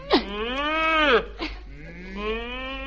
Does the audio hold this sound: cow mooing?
yes